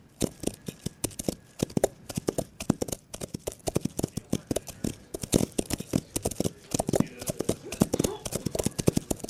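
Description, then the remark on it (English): Horse hooves clip-clop steadily, a quick run of sharp knocks that lasts throughout, with voices talking faintly underneath. “Hey, isn't that Chad's horse over there by the tree line?”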